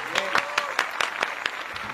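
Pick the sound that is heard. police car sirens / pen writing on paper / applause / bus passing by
applause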